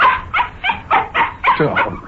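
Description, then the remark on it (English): A dog barks excitedly as it is about to be taken for a walk, a rapid run of about seven sharp, evenly spaced loud barks, with no talking over them. “Yeah, now you got to bark it again.”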